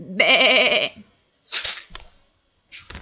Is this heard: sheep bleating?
yes